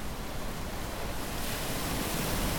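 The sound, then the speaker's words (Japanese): A steady, dense roar of stormy sea surf mixed with gusting wind out at sea, in a worsening storm where a boat bobs up and down like a leaf, swelling a little louder midway and continuing without a break. No voices are heard. “一方、沖に出ているお父さんとおじいちゃんの船の方では、ますますひどくなった嵐の中で、船はまるで木の葉のように浮いたり沈んだりしました。”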